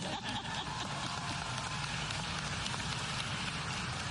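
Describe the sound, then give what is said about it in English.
An audience applauds steadily during a speech praising Joe Biden's legacy, a dense wash of many hands clapping at an even loudness from start to finish, with no voices rising above it. “In one term, he has already, yes, you may clap.”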